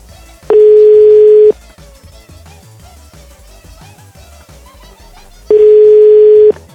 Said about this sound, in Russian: А вот я вижу ее телефон, сейчас я ей позвоню.